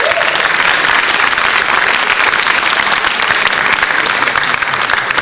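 A canned applause sound effect played at the press of a button during a broadcast: a loud, steady burst of crowd applause, dense clapping that holds at an even level for about five seconds without a break.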